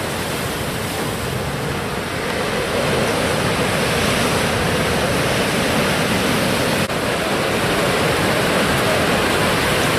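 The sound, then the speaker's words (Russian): Ocean waves crash and wash against the shore, a loud, continuous roar of surf with no distinct pauses between breakers and no voices. “Мы подошли поближе к месту волнений, так можно сказать, океанических.”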